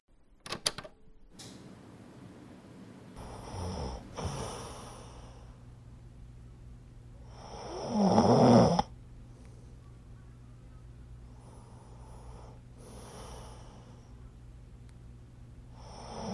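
A sleeping person, the speaker's university classmate, snores in slow, regular cycles, roughly one breath every four seconds, with one notably louder, rattling snore midway; quiet otherwise, with no talking.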